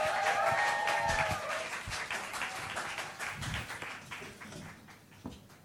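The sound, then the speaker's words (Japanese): Steady applause from an audience in Shibuya welcoming a speaker, dense clapping for several seconds with a few whoops over it, then gradually thinning out toward the end. “では拍手でスコット先生をお迎えしましょう。”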